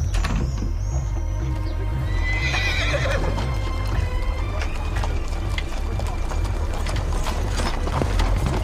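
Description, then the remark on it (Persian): A horse whinnies near the start as hooves clip-clop steadily throughout while a rider leaves a guardhouse on horseback, with faint mechanical clicking and a low rumbling background. “سیاوش سوار بر اسب و از قراولخونه بیرون میاد.”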